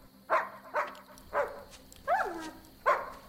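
A dog barks five times on seeing someone who has arrived, in a loose, uneven rhythm. Each bark is short and mid-pitched with a slightly rising, yelping edge, over a low steady hum.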